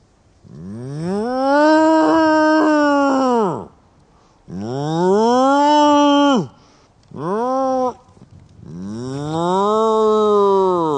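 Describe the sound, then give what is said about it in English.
A person imitates a cow to summon Frisian cows in a field, with four long, droning moos, each swelling up in pitch and then sagging down. The third is short, the others drawn out, with brief pauses between. “The best way to summon them is to moo.”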